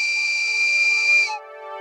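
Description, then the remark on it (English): A single shrill, steady whistle blast blown into a telephone receiver, with an airy hiss, held for about a second and a quarter before cutting off abruptly, leaving a fainter low hum behind. No one speaks. “He blows the whistle again.”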